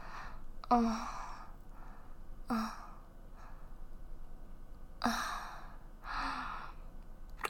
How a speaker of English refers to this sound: That little gasp you let out. Did you like that?